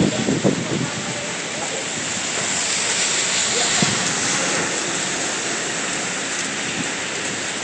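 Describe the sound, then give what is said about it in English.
Vehicles under a 50 km/h speed limit spray water as they drive through a wet intersection, making a loud, steady spraying hiss with a low rumble of passing traffic underneath, like heavy rain. “when they're going through the intersection that I'm watching, the water sprays, and it's quite spectacular to watch actually when the water spray is not that spectacular if you happen to be caught in it, I'm guessing.”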